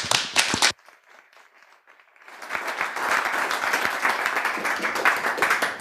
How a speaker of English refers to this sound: So greet him with a warm hand of applause.